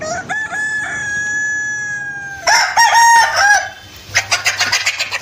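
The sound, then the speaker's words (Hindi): A black Kadaknath rooster, a breed found in Chhattisgarh and Madhya Pradesh whose blood and meat are black, crows loudly, one long drawn-out cock-a-doodle-doo, followed by a burst of clucking and squawking from chickens. “छत्तीसगढ़ और मध्य प्रदेश में पाई जाने वाली काले रंग के मुर्गे की कड़कनाथ नामक इस प्रजाति का खून और मांस तक काला ही होता है।”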